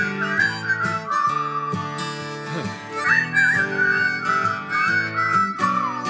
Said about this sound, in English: Whistle! Hard to do when you're laughing.